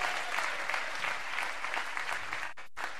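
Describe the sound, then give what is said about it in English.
Steady audience applause, a dense wash of many hands clapping, continuing for a few seconds before cutting off briefly near the end, welcoming the show's audience emissary. “Give it up for”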